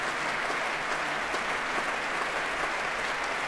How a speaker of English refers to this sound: he's applauding his colleagues in the chorus, and well, they're applauding back.